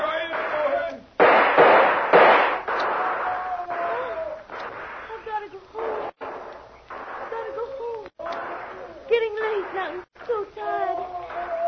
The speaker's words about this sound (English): Now they're shooting wild. Trying to cover their advance. Well, I'll stop that.